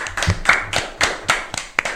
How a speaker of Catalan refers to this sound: Dit això, per tots i també per l'escola La Mercè, demano un fort aplaudiment.